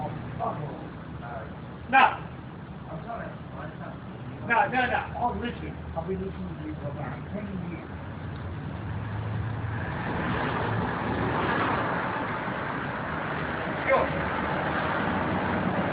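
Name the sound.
road traffic passing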